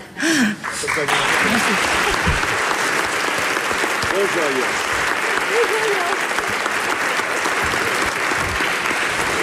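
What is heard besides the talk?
audience applause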